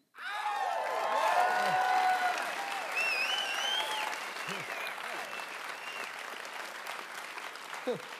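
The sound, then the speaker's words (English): A small audience applauds for about eight seconds, a steady patter of clapping that rises quickly and then eases slightly, with a few indistinct voices and whoops mixed into it. “Could use those 38 claps.”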